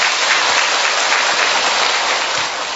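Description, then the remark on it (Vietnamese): A loud, sustained burst of applause from a crowd, dense clapping filling the whole moment with no voices, easing off slightly at the very end. “Đồng ý, một tràng pháo tay thật to lên thưa các bạn.”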